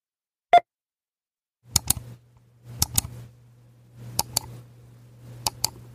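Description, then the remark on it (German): A supermarket checkout scanner: one short, clear electronic beep, then a low steady hum with four evenly spaced pairs of sharp, clicky blips. No one speaks. “Ja, da stelle ich mir vor, ich stehe gerade an der Kasse.”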